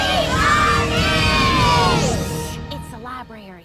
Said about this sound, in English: Fort Atkinson is cheering for him. Come on, you got this!